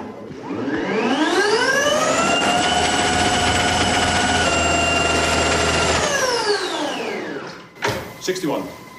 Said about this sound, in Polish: ten dźwięk, który się wydobywa z urządzenia, jest właśnie włączający się hamulec elektromagnetyczny